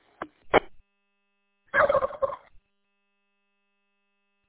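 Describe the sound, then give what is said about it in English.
A turkey gobbles in a rapid, rattling burst, preceded by two short sharp clucks, then silence with a faint steady tone in the background. “Yeah, that turkey wasn't expecting that.”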